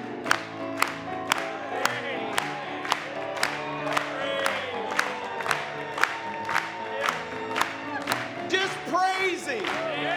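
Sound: audience clapping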